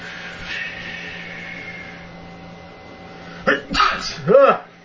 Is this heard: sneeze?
yes